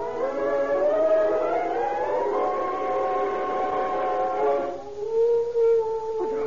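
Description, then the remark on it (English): A dog howls in one long, sustained wail that slowly rises in pitch, then breaks off and settles into a lower, quieter howl near the end. No one speaks. “A dog howling. Howling in his departed spirit.”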